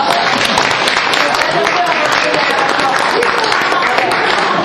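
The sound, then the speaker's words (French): An audience applauds the arriving mayor of Saint-Chéron: steady, dense overlapping claps fill the whole stretch at a fairly loud, even level, with some murmuring voices mixed underneath. “Donc on peut peut-être l'applaudir.”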